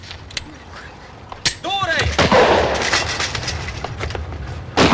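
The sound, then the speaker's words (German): Gunfire exchange from a feature film scene of Hanni's failed attempt to shoot a police commander, her pistol failing and Jan Bonekamp taking over and firing, being badly wounded in the shootout: sharp, loud shots crack out irregularly, mixed with a rising whine-like tone and a burst of noisy commotion, ending with another hard bang. “Jan Bonekamp übernahm, feuerte, wurde bei dem Schusswechsel aber schwer verwundet und starb später in deutscher Hand.”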